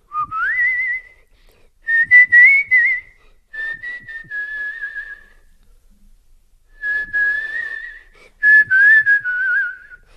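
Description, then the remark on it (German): A person whistles a simple tune in several sustained phrases separated by short pauses, the pitch sliding and holding steadily, clear with no talking. “Also, ich pfeife dann so.”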